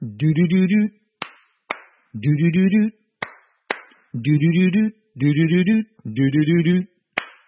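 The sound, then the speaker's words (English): Sharp hand claps in pairs, punctuating the gaps between short hummed or sung melodic phrases in a steady, rhythmic pattern, as at the opening of a song. Both the voice and the claps are clear. “To clap, C-L-A-P, is to put your hands together to make a noise, like this.”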